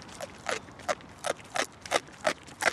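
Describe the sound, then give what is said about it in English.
Three wild boars, each at least 200 pounds, chewing frantically on snacks from visitors at a park fence in the German capital: about eight crisp, crunchy bites in a quick, steady rhythm, each a short, bright burst. No voices can be heard. “The frantic chewing highlights their obsession to find and consume food, especially during the colder months.”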